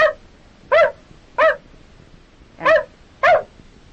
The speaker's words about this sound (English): And that's a dog.